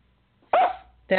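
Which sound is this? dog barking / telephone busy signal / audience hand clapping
dog barking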